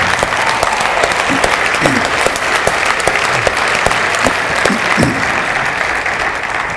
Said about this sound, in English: Hey, let's give God a real, I believe that, hand clap of praise.